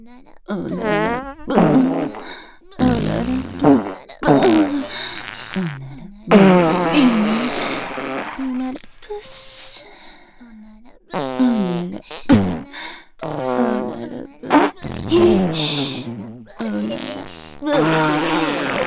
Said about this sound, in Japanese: お姉さんたちの連続へこきに耐えられるかしら。 大好きなおならブーブーで、もっと頭ダメにするのよ。